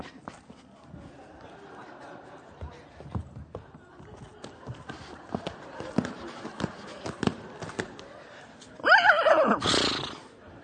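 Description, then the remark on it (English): Scattered clopping hoof sounds build up before a loud horse whinny rises and wavers near the end, followed by a breathy snort. “And then, one day, a stranger came riding into town on his horse.”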